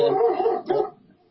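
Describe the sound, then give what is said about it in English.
A dog barks excitedly, one long loud bark quickly followed by a shorter second one, then the sound trails off into quiet. “that's my dog, Sir Jackson Husker Doodle, going crazy over here.”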